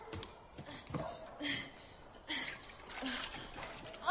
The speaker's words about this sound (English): Water. I'm just going to wash my hands.